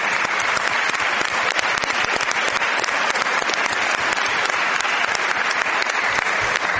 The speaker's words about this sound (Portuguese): Antes de mais, permitam-me cumprimentar ou congratular todos os professores que tanto lutaram por nós, senhores deputados e senhoras deputadas, e os responsáveis pelo IPDJ. Por favor, um grande aplauso para estes.